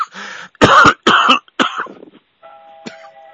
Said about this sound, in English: Excuse me, I've got a cough in my mouth.